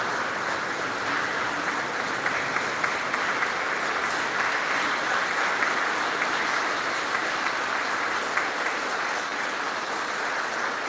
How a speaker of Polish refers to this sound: Bracia i siostry, uradujmy się tym, że On, Jezus, jest Królem naszych serc i oddajmy Mu chwałę oklaskami.